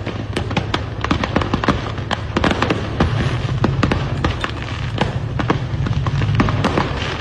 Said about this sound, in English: People are enjoying the show. Wow. The problem is that the fireworks are shooting in all directions. Highway Patrol had to stop the traffic in both directions, so people on both sides